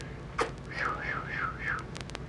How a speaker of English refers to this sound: You change your whistle up like that. That'd call your horse.